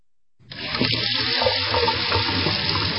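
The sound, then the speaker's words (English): A faucet turns on and water runs steadily into a sink, a continuous rushing splash that starts after a brief silence and keeps going without talk. “Have you really thought about what comes out of your faucets and into your body?”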